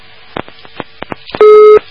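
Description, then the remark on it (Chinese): A few faint clicks and taps on a phone line as a listener's call to a program connects and then hangs up, then one loud, steady telephone busy tone that sounds for under half a second before cutting off. “哎呀，打通了电话挂掉。”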